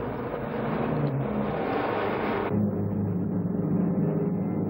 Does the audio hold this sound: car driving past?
yes